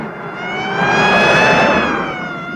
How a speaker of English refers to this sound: The car, with its lights flashing, travels at high speed along the empty roads.